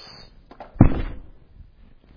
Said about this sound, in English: How do you knock? No, that's how you knock when you hope nobody's home. Right? Like you're out on visitation and it's your turn to talk.